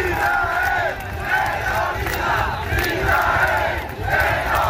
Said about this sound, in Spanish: Al grito de Israel terrorista, cientos de personas protestaban en la meta